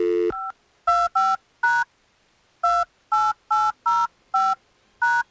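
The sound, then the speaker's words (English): A phone number being dialed on a touch-tone keypad to call someone live on the radio show The Miguel Show on Hot 101.5: about ten short, bright dual-tone beeps in quick succession with a brief pause partway through, clear, with no voices. “are you ready for us to get Lana on the phone?”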